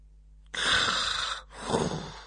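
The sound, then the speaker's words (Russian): A man's voice imitates snoring: two heavy, breathy snores, a harsh rasping intake followed by a lower, rumbling exhale, with no talking. “Храпел он.”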